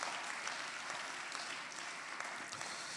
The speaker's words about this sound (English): So watch this. Yeah, you can go applaud. You can go and give God praise.